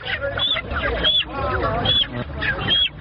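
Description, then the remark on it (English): Chickens, accepted as consultation fees by a traditional healer in Cameroon, cluck and squawk in a busy, overlapping chorus, with sharp high calls cutting through every half second or so, loud against a low background rumble. “accepts chickens as consultation fees from patients who do not have money.”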